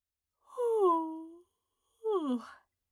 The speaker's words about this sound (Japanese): 大きなあくびを一つ。